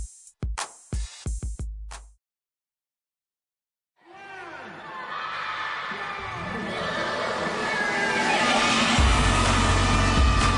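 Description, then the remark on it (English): A few sharp percussive hits and a short silence give way to a crowd of children, excited at receiving toys for the very first time, erupting in shouts and cheers, many high voices overlapping and swelling steadily louder. “It's an explosion of happiness. These kids are so excited because they are receiving toys for the very first time.”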